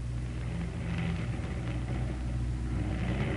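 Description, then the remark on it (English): A steady, droning aircraft engine hums low and heavy throughout as the plane comes in for a crash landing with one motor out, a constant rumbling tone with a slight pulsing texture, holding even in loudness with no voices over it. “Hey, Joe, listen. Somebody's coming in. Trying to, you mean?”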